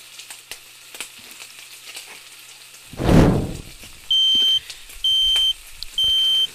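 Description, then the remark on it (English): French fries crackle and sizzle steadily in hot oil in a skillet, surging into a loud hiss midway, followed by three evenly spaced, piercing alarm beeps over the continuing fry. “is the sound of me cooking French fries in hot oil in a skillet.”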